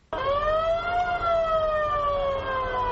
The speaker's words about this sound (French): Une ambulance roule à toute vitesse vers l'hôpital militaire de Yaoundé. Elle transporte 4 blessés ramenés par hélicoptère après des combats à Bangem et Mamfé, 2 villes anglophones.